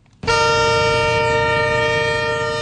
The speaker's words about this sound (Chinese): 上个月，运输着新能源汽车动力锂离子电池的列车从重庆发车，沿着西部陆海新通道一路向南，在广西北部湾防城港装船出海。